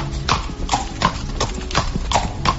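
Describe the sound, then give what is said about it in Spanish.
Horse hooves clip-clop in a steady, even rhythm, about six clear strikes in under three seconds, moderately loud over a soft background hum. “terapias y talleres de aprendizaje asistidos con animales, con caballos.”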